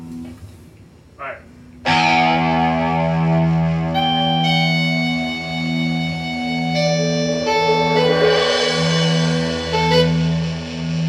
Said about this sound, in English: You're supposed to do a song, and the guitar is doing that in the background.